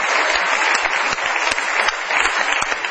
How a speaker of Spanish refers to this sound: Un aplauso muy grande para el querido